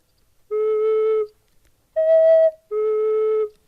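Three sustained tones blown in sequence on a half-stopped pipe, made by putting a finger over its end, each about a second long, the middle one pitched higher than the two matching outer ones, clear with short silences between.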